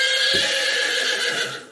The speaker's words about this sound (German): Ponys.